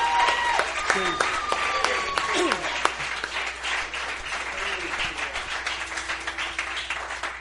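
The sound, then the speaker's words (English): An audience applauds and cheers for the Lord during worship, a dense wash of clapping with scattered shouts and whoops rising over it, steady and fairly loud throughout, with voices mixed into the crowd noise. “Give the Lord a cheer.”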